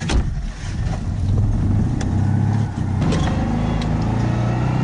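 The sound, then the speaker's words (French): A Citroën 2CV drives along, its small engine droning in a steady low hum with faint rattles. Midway the note dips briefly, as if shifting gear, then carries on evenly. No voices. “Les gens, quand tu roules en deux chevaux, ils se retournent et rigolent.”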